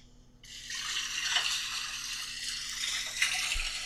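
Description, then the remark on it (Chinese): A faucet switches on and runs steadily, a broad hissing wash of water, with a faint clink or splash partway through as dishes are rinsed. No one speaks. “没什么，我帮你洗碗吧。”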